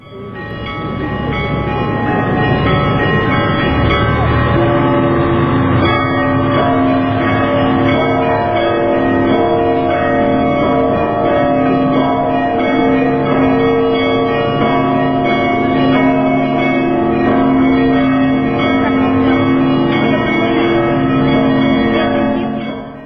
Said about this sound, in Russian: Что значит Егорьевский звон? Это звон, который был сочинен звонарями Ростова Великого еще примерно в самом начале 18 столетия и с тех пор сохраняется там как незыблемая колокольная традиция.